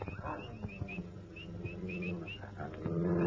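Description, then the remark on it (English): Dogs growl low and steadily at night, with short sharp barks breaking through and the growling swelling louder toward the end, while high chirping calls repeat faintly in the background. “What the dickens is the matter with the dogs?”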